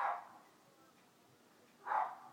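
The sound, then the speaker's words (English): A dog barks twice outdoors on a sunny day, the two muffled barks about two seconds apart, faint over a quiet background. “Barking though, because I can hear her talking.”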